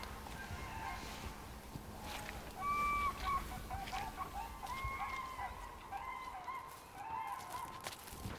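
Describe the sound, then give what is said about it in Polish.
Common cranes calling at sunrise as they leave the marshes for feeding grounds on farm fields outside the Biebrza Valley: loud, bugling trumpet calls overlapping from several birds, rising and falling over a steady low rumble of background noise, with no voices. “I teraz o wschodzie słońca żurawie ruszają z bagien na żelowisko na polach uprawnych poza Doliną Biebrzy i to jest spektakl.”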